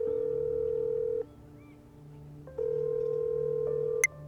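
telephone call ringing tone

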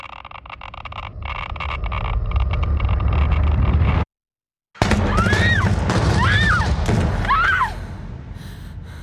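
gunshots

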